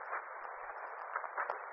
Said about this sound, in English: Hissing sound. Coming from that corner.